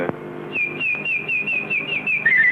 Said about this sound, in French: Ah non, c'est la fauvette, monsieur.